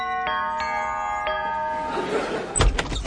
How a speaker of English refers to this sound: Now, come on, hurry up, we're late. Ring the doorbell.